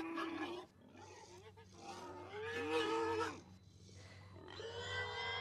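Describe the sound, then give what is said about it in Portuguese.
A suffering pig squeals and wails in long, high, strained cries that rise and fall like a crying child, repeating several times over a low steady hum. “Mano, o porco ele chora igual criança, mano.”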